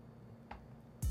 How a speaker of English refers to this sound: Take another sip here.